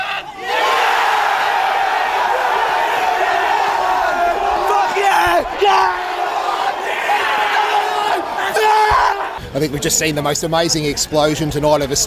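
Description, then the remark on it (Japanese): A huge crowd of Australian Socceroos football fans roars and cheers continuously as Australia wins a penalty shootout to qualify for the Qatar World Cup, a dense wall of yelling and whooping; toward the end the noise shifts into rhythmic shouting and chanting voices. “我々はオーストラリア人ファンの最も目覚ましい爆発を今夜見たと思います。”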